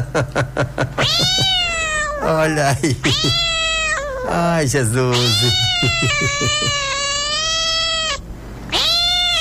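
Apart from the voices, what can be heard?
cat meowing loudly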